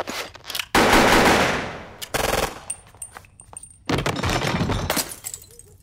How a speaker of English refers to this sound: My gun spits fire in the dark, and 4 silhouettes fall, the last managing to squeeze the trigger before he crumples to the floor. All I can smell is gunpowder.